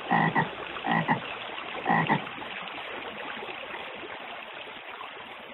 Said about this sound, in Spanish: La onomatopeya de esa palabra es Toar, Toar, Toar, que es lo que hacen las ranas con su sonido.